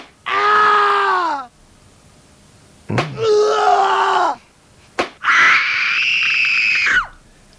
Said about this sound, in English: Well, I know, and screams happen at this borderline of pleasure and pain, and and we do encourage people to invite their friends or into the scream room